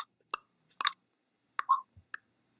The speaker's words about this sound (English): so we'll take something just like clicking the tongue. So if you can just make like a clicking or a popping sound with your tongue.